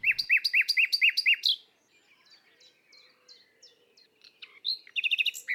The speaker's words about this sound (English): Here's a little sound of a nightingale.